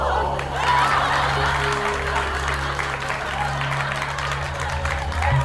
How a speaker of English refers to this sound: The studio audience roared with laughter and applause.